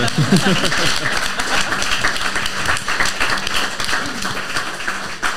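An audience claps together in a steady, dense patter of sustained applause, with a few voices faintly audible at the start; applause for a panel guest at a live event at Weingut Lunnebach.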